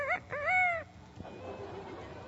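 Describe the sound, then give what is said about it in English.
A voice mimics a rooster's crow: a short rising note, then a longer drawn-out arching call, loud, followed by quieter background rustling. “How about a rooster?”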